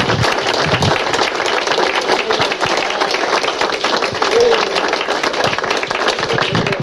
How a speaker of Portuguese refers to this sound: E portanto, para vocês todos, uma grande salva de palmas, que o merecem em termos.